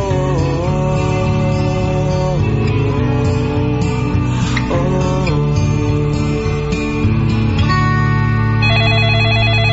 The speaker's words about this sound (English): Get that phone.